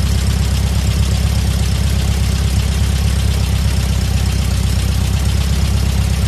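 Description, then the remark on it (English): Ted Bundy's Volkswagen Beetle, driving without lights and stopped by police, idles steadily, a loud, continuous low rumble with a fast, even chugging pulse and no voices throughout. “I have a Volkswagen Bug. No lights. Refusing to stop.”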